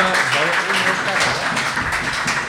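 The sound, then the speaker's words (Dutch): An audience applauds the male guests with a dense, steady wash of clapping that holds a fairly even loudness throughout, with a voice faintly audible underneath. “En een applaus voor deze sleetse mannen.”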